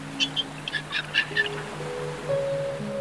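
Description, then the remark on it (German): A dolphin chatters in a quick series of short, high, squeaky clicks and chirps for about a second as it leaps out of the water, followed by a steady low humming tone. No one speaks. “klickert auf und springt vergnügt aus dem Wasser”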